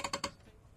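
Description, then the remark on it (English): An on-air radio studio chair creaks in three quick, sharp clicking bursts at a steady rhythm, fairly quiet, followed by near silence with no one talking. “This chair is not a good on-air chair.”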